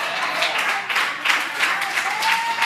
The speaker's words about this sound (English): I couldn't get no 2 minute claps right there.